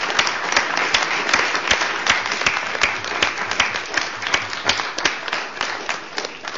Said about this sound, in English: And thank you, Jana, for the Czech presidency, for your pioneership and initiative. Let us applaud the contribution of Jana Ivaškova.